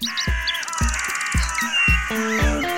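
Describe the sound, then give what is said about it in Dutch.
A busy chorus of birds chirping and whistling continuously in spring, bright, layered over a steady low rhythmic thumping. “U hoort op de achtergrond al vogels fluiten, want de lente is begonnen.”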